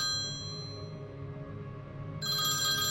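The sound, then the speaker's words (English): A telephone rings with a steady, bright electronic tone, continuous, growing sharper and fuller near the end, for a man calling his family. No one speaks. “So he eventually gets taken to a safe location, and he's given a phone where he's able to call his family.”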